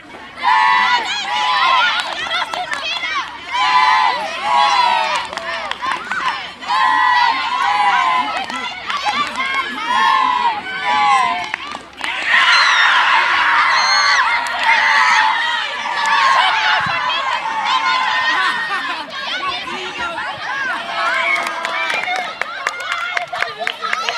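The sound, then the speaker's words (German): A crowd of students at a school sports day shouts and cheers continuously during a ball-over-the-rope game, with overlapping high-pitched yells rising and falling and a louder burst of excited screaming midway, with some clapping mixed in. “Auf dem Sportfest gibt es allerhand zu sehen. Die Jugendlichen sind mit ganzer Motivation, wie hier beim Ball über die Leine, mit dabei.”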